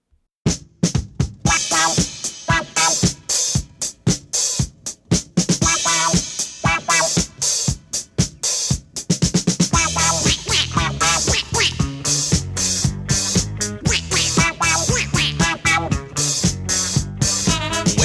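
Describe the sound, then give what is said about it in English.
Loud, rhythmic duck quacks punctuate an upbeat disco track, repeating in time with a driving beat and bright synth backing throughout. “This is quintessential duck music.”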